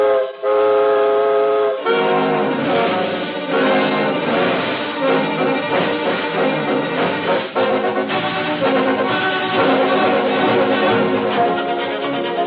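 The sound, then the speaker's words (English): A steam train whistle blows a steady, loud tone for about two seconds, then a dense, continuous rush of chugging, churning sound takes over as the train, its steam pressure up, sets off on a journey across America on Christmas Eve. No one speaks. “The steam pressure is up, and we're off on the second leg of our swift journey across America”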